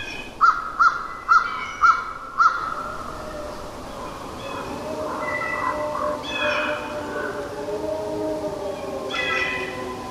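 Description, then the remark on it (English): A crow caws five times in a quick, even series, clear, then gives way to long, wavering howls of two wolf packs converging on each other, drifting and overlapping. “You'll hear a crow, and then...”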